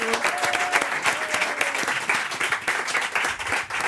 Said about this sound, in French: Applaudissements pour Agnès Martin-Lugan.